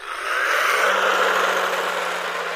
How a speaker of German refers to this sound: Ein kleines Fahrzeug. Es sieht aus wie ein Lego-Auto, allerdings wie eins, das herumkurven kann. Doch wohin es fährt, ist weder zufällig noch vorprogrammiert,